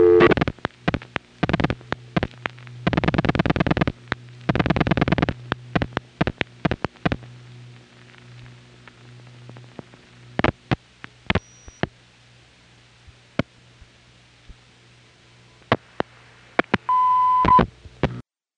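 A telephone call being placed to a loop-around test line at the tandem level in Detroit: bursts of signaling tones and scattered clicks on the line, then a steady, clear test tone sounds briefly near the end before the caller hangs up. No one speaks.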